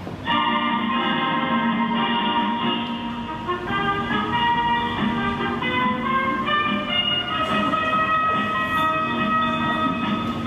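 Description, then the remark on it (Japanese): A train pulls into a station platform, its electric motors whining in layered steady tones over a continuous rumble, loud and sustained throughout with no voices. “まもなく電車が参ります。危ないですから下がってお待ちください。”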